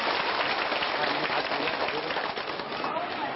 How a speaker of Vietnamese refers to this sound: đề nghị quý vị cho một tràng pháo tay để cung kính Phật tử.